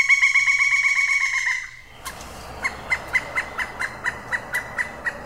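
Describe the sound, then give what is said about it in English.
Pileated woodpecker calls: a sustained, nasal, buzzy note, then a steady run of about a dozen loud, evenly spaced clucking notes, with no one talking. “Okay, so that would be what a pileated woodpecker would sound like.”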